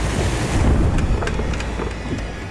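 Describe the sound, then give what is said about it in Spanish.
Huge waves thud and slap against the side of a sailboat's hull at nightfall in bad weather, amid a constant roar of wind and water, with several sharper splashing hits in quick, irregular succession. No one speaks. “Las enormes olas están azotando el lateral del barco.”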